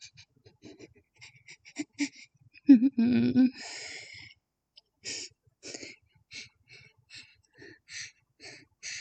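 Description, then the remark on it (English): Close, heavy breathing with a string of short, ragged breaths and one louder, drawn-out gasp partway through, like someone trying to catch their breath. “I need to get my breathing to calm down.”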